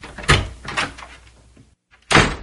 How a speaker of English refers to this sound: The door of the office opened, and Belinda came in.